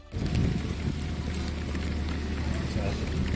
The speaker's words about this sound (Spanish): Este es el sonido de la fina capa de lluvia que esta noche caía sobre los camiones de bomberos que intentan sofocar el grave incendio forestal de Begís, en Castellón.